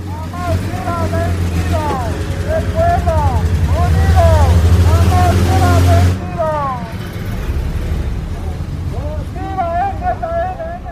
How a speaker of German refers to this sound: Nach der Kundgebung werden die Motoren angelassen. Der Konvoi fährt weiter. Ihr Ziel ist Yechbo, eine der vom Wasser abgeschnittenen Gemeinden.